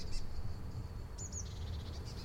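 Seagulls asking for food call faintly, a few short, high cries breaking through a steady low rumble of wind or background noise, with no one talking.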